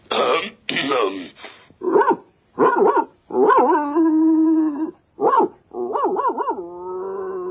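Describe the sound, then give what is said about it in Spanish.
The dog Towser barks loudly, giving a run of gruff, throaty barks in an uneven rhythm, some stretched into longer drawn-out yowls, with no other sounds around them. “Pues ladráselo limpio y con fuerza, o no lo va a entender.”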